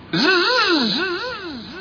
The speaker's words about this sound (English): That's an echo, sir.